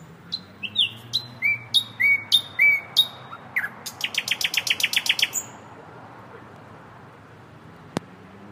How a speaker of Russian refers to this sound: А сейчас мы снимаем пение череповецкого соловья.